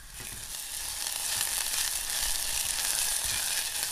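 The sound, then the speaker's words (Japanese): Steady sizzling of chopped long green onion and garlic frying in hot sesame oil in a small pot to make a salt sauce, a dense crackling hiss that holds constant throughout with a few faint clinks underneath and no talking. “小鍋にごま油、長ネギ、ニンニクのみじん切りを入れて火にかけます。”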